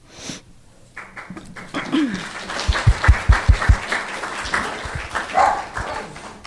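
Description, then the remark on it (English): A dog barks several times in a quick burst amid a round of applause and clapping, with some faint voices in the background. “Even the dog loved that.”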